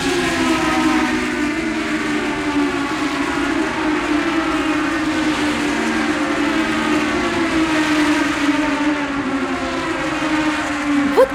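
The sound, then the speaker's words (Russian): High-pitched Formula 1 racing car engines whine in a loud, continuous drone, their pitch holding steady with slight rises and falls for the whole stretch, with no one talking. “Я понимаю, машины!”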